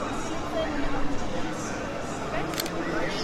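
A couple of quick camera shutter clicks, sharpest near the end, cut through the steady murmur of a crowd chattering in the background.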